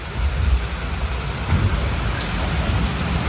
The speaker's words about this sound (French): Le vent a tourné de 80 degrés. Il est monté à 20-25 nœuds. Il pleut. Voilà. Voilà le poteau noir.